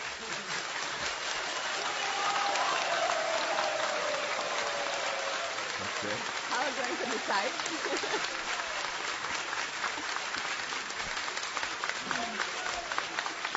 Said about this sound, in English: Okay, I want you to do it by clapping. Сейчас будете хлопать. All who felt that story on the left was the best clap.